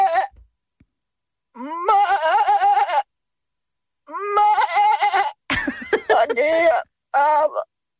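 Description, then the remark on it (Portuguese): A man, a listener, imitates a sheep, letting out several loud, quavering bleats that alternate between a higher and a lower pitch, with short pauses in between. “Não, é o mesmo ouvinte a fazer dois tons de ovelha.”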